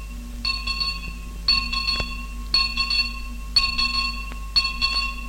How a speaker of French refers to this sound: Vous avez entendu la cloche. Elle sonne à travers les années.